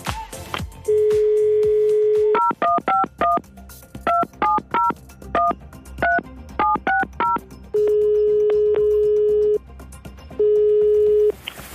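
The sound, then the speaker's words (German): A steady dial tone gives way to a quick run of about a dozen short two-pitch touch-tone beeps as a phone number is keyed in to call a girlfriend, then the long tone returns in two sustained stretches. “Wollen wir vielleicht deine Freundin anrufen gemeinsam und du erzählst ihr, dass du ihr ein Auto verschafft hast?”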